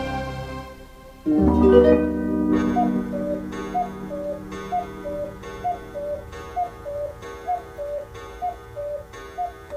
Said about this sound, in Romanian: Bătând ceasul din burta crocodilului.